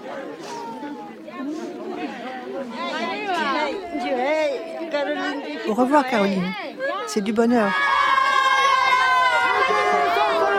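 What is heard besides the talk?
crowd shouting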